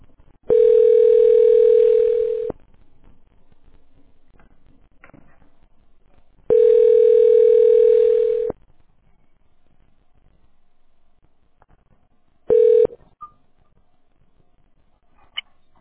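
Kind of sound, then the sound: signal or alarm, phone call connecting tone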